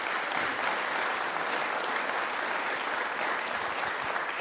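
An audience applauds steadily, a dense wash of many hands clapping at an even, sustained loudness for the whole stretch, with no voices rising above it.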